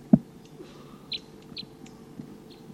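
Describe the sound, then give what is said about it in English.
A wild male bird in the top of a tree gives a few short, high-pitched flight calls spaced irregularly over a low steady background rumble, with one soft thump at the very start and no talking. “It's been about 5 minutes since those wild birds showed up, and there's a wild male here still tooping up in the top of a tree, occasionally giving flight calls, and doesn't want to come down.”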